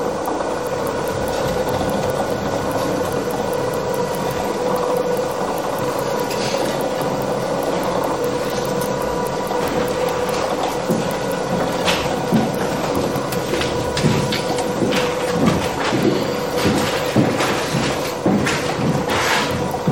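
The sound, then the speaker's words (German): A motor-driven machine controlled by an Arduino with a motor shield whirs steadily while turning, with clicking, ratchet-like ticks recurring in regular, periodic rounds; moderately loud, with no one talking. “Und das kommt halt eben alles darauf an, was ich quasi auf die Motoren drauf gebe und wie ich die einstelle und so.”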